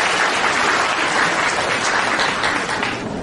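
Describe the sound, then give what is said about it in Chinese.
An audience applauds steadily in gratitude to Master Lu Junhong (卢军宏台长), a dense wash of many hands clapping at a fairly loud, even level throughout, with no voices standing out. “让我们再一次用最热烈的掌声，感恩大慈大悲的卢军宏台长。”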